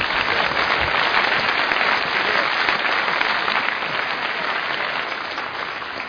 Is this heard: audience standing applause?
yes